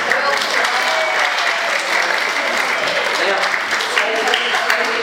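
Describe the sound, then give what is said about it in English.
A crowd claps steadily and loudly for about five seconds, a dense, even patter of many hands with a faint murmur of voices underneath. “Big clap.”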